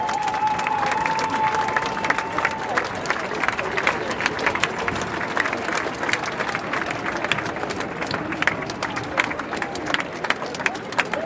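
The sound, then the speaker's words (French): A large outdoor crowd at a protest rally in Paris, with families, children and many young people, fills the air with a dense, steady roar of overlapping voices, scattered clapping and sharp bursts, while a faint whistle-like tone rises briefly at the start. “C'est une foule vraiment cosmopolite avec des Français de toute origine.”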